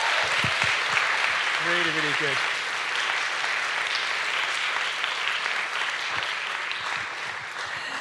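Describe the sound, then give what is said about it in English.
An audience claps steadily and densely for several seconds, a sustained wash of hands at even loudness, with a brief voice calling out early on. “Clap again, please.”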